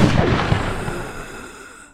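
A single loud gunshot from an already cocked gun, fired at a waking man's left side, cracks out with a broad, booming blast, then rumbles and echoes away over a couple of seconds.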